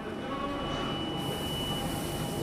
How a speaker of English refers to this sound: One of London's underground tube trains. Its tunnel runs through clay formed in a tropical sea 50 million years ago.